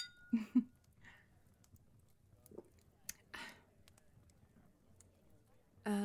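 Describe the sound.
A couple of quick, bright clinks of glasses touching in a toast, followed by scattered light clatter and a brief burst of voice at the end.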